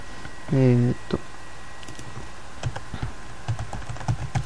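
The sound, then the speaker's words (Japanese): Typing on a computer keyboard: a loose, irregular run of soft key clicks fills the second half, after a brief voiced sound near the start and a quiet pause. “キーボード打ちながらちょっとやります。”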